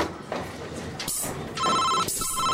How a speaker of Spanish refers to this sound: ¿Por qué está sonando tanto el teléfono? ¿Quién osa interrumpir mi siesta?